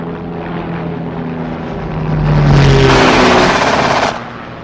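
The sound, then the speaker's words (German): A propeller aircraft engine, running low on fuel, sputters and rattles roughly, surging louder for a couple of seconds before abruptly cutting out, leaving a quieter low drone behind. No one speaks. “Ich muss runter, mein Motor geht aus.”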